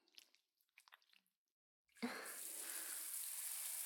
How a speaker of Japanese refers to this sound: ベトベトおちんちんシャワーで流して、きれいきれいしようね。